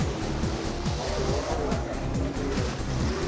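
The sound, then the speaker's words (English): Race car engines roar loudly and continuously at car races on a dark, cold night, their pitch climbing and dropping again and again as they rev and speed past, with no voices over the din. “We went to the car races.”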